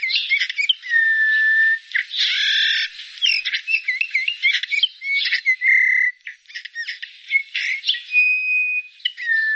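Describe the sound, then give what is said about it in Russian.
Eurasian bullfinch calls: soft piping whistles and chirps, mixed with busier twittering and trills that run almost continuously, with no voices present. “Однако этих веселых красногрудых птиц мы видим все реже. И записать голос снегиря тоже редкость.”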